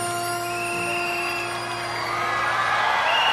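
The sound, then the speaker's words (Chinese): An audience applauds and cheers for a 13-year-old child performer after a song, a dense wash of clapping and whoops that swells louder toward the end, with a few sustained musical tones lingering underneath. “再一次俾你掌声，呢位13岁嘅小朋友，希望你系第时嘅李云迪或者乐乐，好唔好？”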